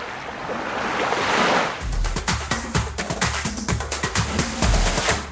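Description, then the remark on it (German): Sea surf rushes and hisses steadily, fairly loud, then continues underneath a series of sharp, rhythmic thumps and low tones that begin partway through. “Wenn Sie diesen Podcast hören, hören Sie das Meer rauschen.”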